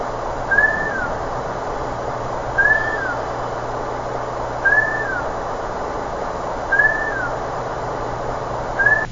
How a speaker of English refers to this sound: It's file 190106A, whistle 5-time loop.